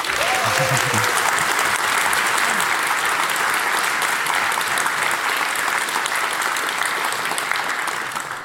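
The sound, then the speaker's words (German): Sustained applause from a sizable audience at the GPN hacker conference, welcoming a talk on hacking the ETCS train control system. A dense, steady wash of clapping stays loud for the full length, with a brief voice audible near the start. “Einen tollen Applaus bitte.”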